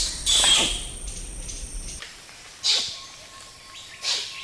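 Three sharp, high squeaky kiss squeaks of wild orangutans burst out at irregular intervals, the first one loudest, over a soft hiss of forest background with a faint steady tone.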